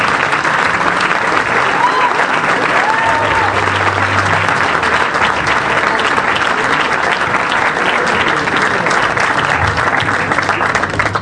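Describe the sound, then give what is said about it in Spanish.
Loud, sustained applause from a large audience, a dense steady roar of clapping that fills the whole stretch without letting up, with faint cheers or whistles scattered through it. “Y el aplauso para”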